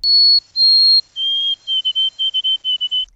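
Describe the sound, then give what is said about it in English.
A clear, high whistled bird song: two long pure notes, then a slightly lower tone breaking into a quick run of repeated short triplet notes, the White-throated Sparrow's "Oh sweet Canada" pattern. “And those last words are a little triplet that the bird sings, and I think we can listen to it now.”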